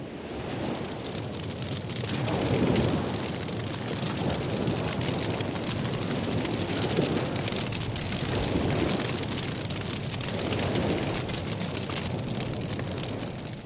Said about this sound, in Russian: Вдруг позади себя я услышал грохот и шипение.